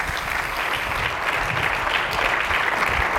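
An audience gathered from several churches claps steadily for the praise and worship team, producing a dense, continuous wash of applause that holds at a fairly loud, even level throughout, with no voices standing out above it.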